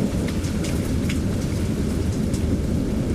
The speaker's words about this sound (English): this sound is it's almost a soft, you know, you hear the thunder, and that, to me, that's relaxing. But listen to the rain. It's just, you can hear it kind of coming down, and it's...